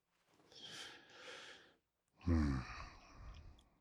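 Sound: yawn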